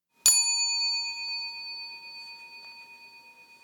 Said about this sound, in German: Nach dem Glockenton.